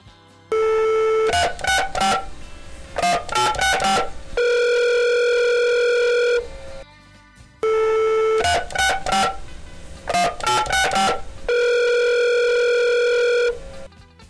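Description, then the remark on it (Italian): A telephone sequence from a phone booth in a park, calling the police, sounds twice: a steady tone, a rapid run of dialing beeps, then a longer sustained dial tone, all clear with no voices. “Il vecchio signore corse alla prima cabina telefonica che si intravedeva nel parco e chiamò la polizia.”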